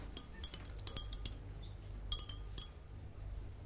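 A teaspoon stirs a teaspoon of salt into warm water, clinking repeatedly against the sides of a glass, quick light taps in an uneven rhythm with brief pauses, over a low steady hum; no one speaks.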